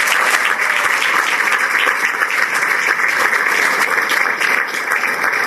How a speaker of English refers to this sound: They are here. Could you please stand? I want folks to see you and receive a round of applause for DPD in the house.